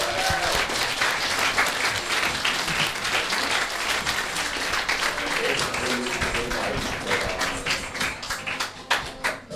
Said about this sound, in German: Und hier drin jetzt ganz laut. Und es geht weiter. Einen großen Applaus für den zweiten Teil der Gästeliste Geisterbahn.